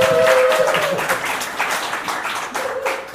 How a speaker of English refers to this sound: Let's cheer or clap or something. Yay!